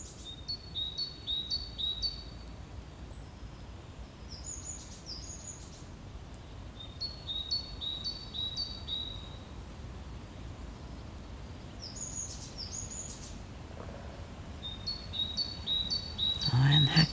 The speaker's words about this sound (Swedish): Lite talgoxe, lite blåmes och lite så.